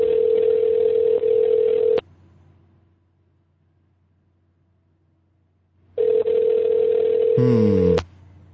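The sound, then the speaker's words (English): A telephone ringing tone heard over a call line as one of the week's winners is phoned: two steady, mid-pitched buzzing rings of about two seconds each, separated by a long silent pause, with no one talking. “Can you hear, did you hear the beep, beep, beep, beep, beep, beep, beep? Guy? I hear the ring.”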